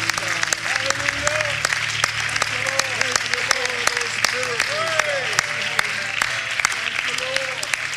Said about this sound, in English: And I wonder if those of you that can could clap your hands and shout as if to say, thank you for those miracles, God.